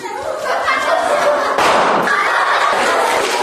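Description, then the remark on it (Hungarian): A balloon, with a little liquid nitrogen poured into its bottom and then inflated, bursts with a sudden loud bang partway through, set against steady rushing, hissing noise that continues afterward. Some faint voices mix in. “Na kérném, hogy miért szólt ekkorát”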